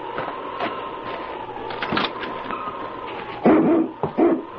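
A husky named King whimpers in a thin, steady whine, then lets out a couple of loud barks near the end, with faint rumbling noise underneath.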